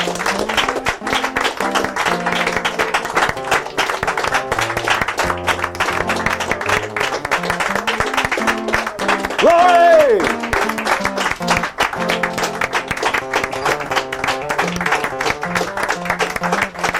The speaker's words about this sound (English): It's been good to be in the house of the Lord. Let's give the Lord a hand clap praise one more time tonight. Thank You, Lord Jesus.